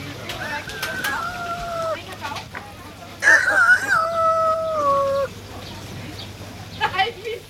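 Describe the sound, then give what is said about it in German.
A person imitates a rooster's crow twice, each a drawn-out, held call, the second louder than the first, with faint background noise between them. “Darf ich mich mit einem geziemenden Kikeriki verabschieden?”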